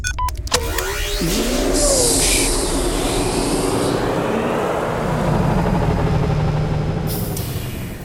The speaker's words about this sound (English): Let's turn on our storm suit thrusters to zoom us up.